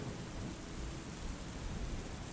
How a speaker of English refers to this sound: Slowly, over time, you feel light speckles of rain on your skin. And find yourself in a flowery meadow on a dark and moody night. The rain gets heavier,